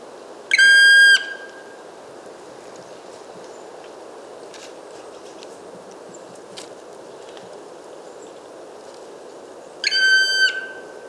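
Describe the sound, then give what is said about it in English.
A black woodpecker at moderate distance, recorded with a parabolic microphone, gives two loud, drawn-out whistling calls, one at the start and one near the end, with a long stretch of steady forest hiss between them. “Black woodpecker, not too close to see it without binoculars, not too far to record it well enough with my parabola.”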